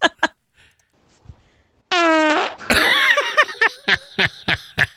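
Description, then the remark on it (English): A loud, drawn-out buzzy fart gives way to a wet, sputtering burst, then a string of short popping puffs trailing off, with no talking over it. “See, if it was a hot chick fart, maybe I'd pay something for it.”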